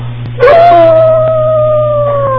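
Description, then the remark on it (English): A single long wolf howl rises in sharply and holds a steady, mournful note that slowly sinks in pitch, over a constant low background hum. “He said, once or twice a year, the wolves shall come out.”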